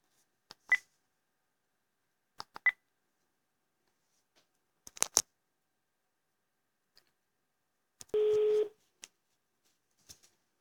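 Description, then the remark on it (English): Several short electronic clicks and beeps at uneven intervals, then a steady sustained tone of under a second, as a phone redials after a dropped call, fairly quiet with no talking. “Okay, I will call again.”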